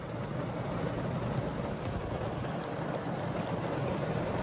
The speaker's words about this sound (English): Another rain update, dude. It's pouring down. It's pouring down in buckets, dude.